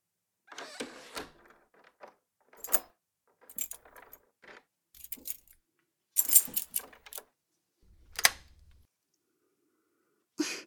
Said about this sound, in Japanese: それじゃあ最後に図書館の裏口に鍵かけちゃうね。